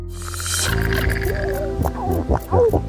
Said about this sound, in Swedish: Sälar som knorrar. Och fiskläten.